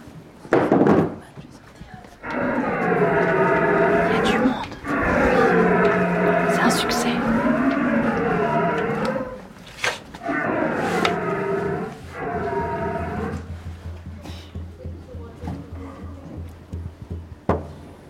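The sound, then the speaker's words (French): A contest candidate performing before a jury vocally imitates a young stag's bellow: long, wavering, groaning calls in three drawn-out bursts, loud, with a few dull thumps before and between them. “Donc, c'est le rêve du jeune cerf.”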